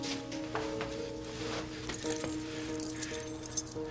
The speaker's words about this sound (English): Give me your keys. What? Give me your keys.